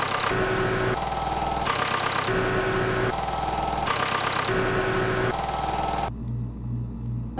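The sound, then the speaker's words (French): Vehicle engines run loudly and steadily by the roadside, a dense rumbling drone with a slight knocking rhythm, then settle into a quieter, pulsing idle near the end. No one speaks. “C'est les moteurs qui donnent le ton, car l'ennemi est invisible.”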